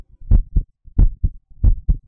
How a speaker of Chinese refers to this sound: 您说，因为…的心跳声很好听，所以想要多听一下子，是吗？